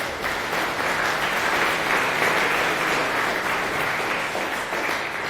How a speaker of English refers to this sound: So a round of applause